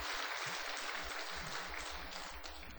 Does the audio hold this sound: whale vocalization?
no